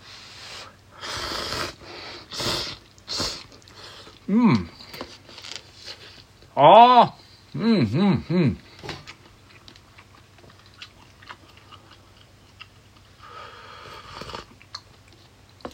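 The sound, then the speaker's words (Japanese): Slurping and chewing of thin instant cup ramen noodles, with a few quick wet bursts followed by steady mouth sounds, broken by short hummed vocal noises partway through before things go quiet. “はい、咀嚼音がしますんで失礼いたします。”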